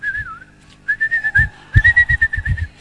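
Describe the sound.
Someone whistles a bright, wavering melody, holding notes and gliding between pitches, while soft rhythmic thumps pulse steadily underneath.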